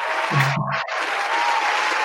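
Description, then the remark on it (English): A large crowd cheers and applauds in a dense, continuous roar of clapping and shouts, steady and loud throughout, with a brief whoop rising out of the noise early on. “You got to hear that cheer.”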